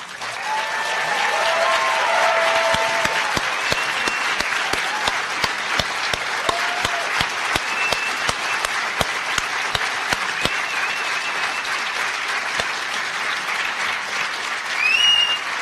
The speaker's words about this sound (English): Okay, so I know there are some of you who felt you didn't applaud enough